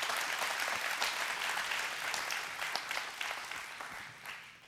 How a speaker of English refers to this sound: Give him Amen. A big clap. Thank you, Father. Amen.